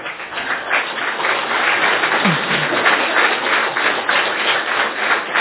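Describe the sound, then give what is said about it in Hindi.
A crowd applauds steadily, many hands clapping together in a dense, even patter that stays loud for the full few seconds with no voices over it. “ताली बजाएं इनके लिए।”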